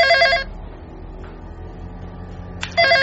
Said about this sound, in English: Who could that be? Darn it, why'd the phone have to ring? The movie was just getting good.